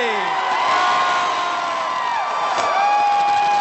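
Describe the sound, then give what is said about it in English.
A large outdoor crowd gathered for the annual event at Gobbler's Knob cheers and whoops continuously, with many overlapping shouts and high yells forming a dense, loud wall of celebratory noise throughout. “Crowds gathered to watch the annual event at Gobbler's Knob.”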